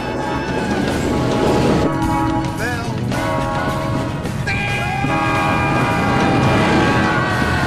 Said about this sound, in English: A train is coming.